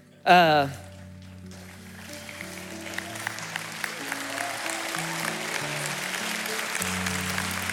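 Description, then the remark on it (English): A church audience claps steadily in praise of God, a dense, continuous patter that builds after a short vocal burst at the start, with sustained low keyboard chords shifting underneath. “We're clapping right now because you're just amazing, and sometimes we just forget it.”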